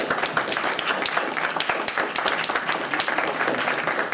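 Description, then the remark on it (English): An audience applauds a speaker at an event: a dense wash of many hands clapping at once, sustained and fairly loud throughout with no voices rising above it. “If we could all give him a big round of applause.”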